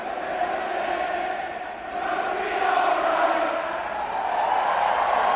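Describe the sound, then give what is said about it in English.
A huge baseball stadium crowd roars and cheers wildly as Shane Victorino hits a double off the monster, sending three Red Sox runs home in a postseason game against the Cardinals; a loud, dense wall of voices that swells and stays intense without pause for several seconds. “The crowd went crazy as Shane Victorino hit a big double off the monster to send three Red Sox runs over home plate.”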